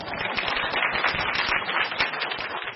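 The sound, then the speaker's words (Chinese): A group of people applauds steadily, a dense wash of many overlapping hand claps at even loudness throughout, with no voices standing out above it. “拍手鼓励了，真的啊。”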